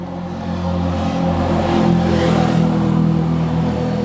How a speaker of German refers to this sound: Das war ein Quad. Naja, sowas ähnliches. Ein Quad. Sowas ähnliches. Und das ist ja auch ohne Helm, also.